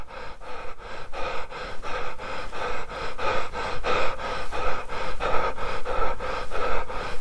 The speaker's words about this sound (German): Es ist relativ leise, ja. Es ist ein tiefes Atmen. Ja, es ist frei.